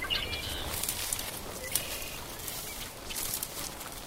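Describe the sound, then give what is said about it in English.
Soft, faint birdsong in early spring: a few thin, high warbling phrases drift in and out over a steady low rumble and hiss, with no voices. “they're all singing very softly. They're not really becoming territorial yet.”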